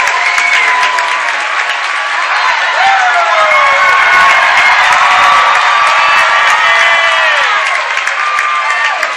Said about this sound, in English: And the round of applause, as much for Carson Kurse as it was the bat dog here at Johnson City. He raced out and got the bat sitting by home plate.